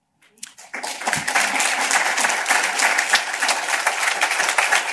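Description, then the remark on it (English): A crowd in Chicago breaks into applause at a CHA housing announcement, after a brief scattered start settling into steady, dense clapping that stays loud and even for several seconds, with no voices over it. “Okay, I'll let you clap on this next one.”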